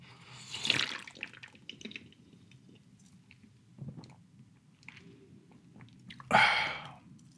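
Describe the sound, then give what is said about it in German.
Someone takes a sip of beer from a can during a beer tasting: a wet slurp near the start, a few quiet swallowing sounds, then a second louder slurp near the end, over a low steady hum. “Soll ich einen Schluck aus der Dose nehmen? Ja. Einen Schluck aus der Dose.”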